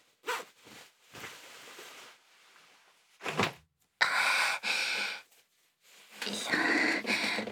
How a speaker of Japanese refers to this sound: 早速チャックも開けて脱いでいきたいと思います。